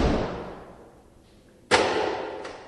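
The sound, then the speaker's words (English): A heavy fortified steel door, electronically unlocked by a guard at the Connecticut Juvenile Training School, bangs shut with a loud, echoing slam, preceded by a fading metallic clatter and followed by a softer clunk as the reverberation dies away. No voices. “It takes a guard to electronically unlock fortified steel doors to get into any building at the Connecticut Juvenile Training School.”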